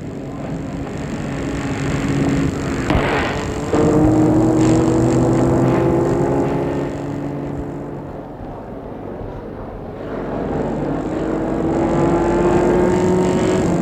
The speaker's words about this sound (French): Les voitures du Vatican. Les cars de police, ambulances, etc.